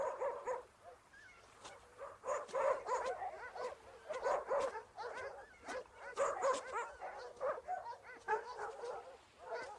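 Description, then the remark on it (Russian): Several dogs bark continuously and overlapping, sharp excited barks with some whimpering and yips mixed in, a busy chorus that runs the whole time. “возьмите два ствола и всех собак.”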